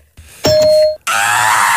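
A single bright ding rings out clearly and sustains for about half a second, then cuts off as a loud, harsh burst of noise takes over.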